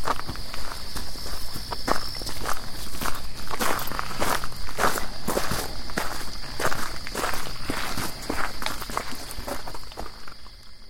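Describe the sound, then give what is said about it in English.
Something crunches quickly through dry forest litter in the woods near Harris Spring, coming toward the listeners at high speed: a fast, steady run of sharp rustling footfalls over about ten seconds, with a thin high insect-like whine holding underneath and no voices. “There was something crunching through the woods towards us at high speed.”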